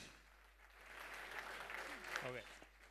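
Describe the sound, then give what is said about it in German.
A hall full of people applauding, a dense, steady wash of clapping that holds throughout, with a brief voice rising above it near the end. “Applaus im Saal.”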